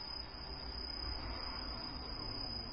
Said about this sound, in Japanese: 虫の声がもう聞こえるようになりまして、もう、すっかり秋ですね。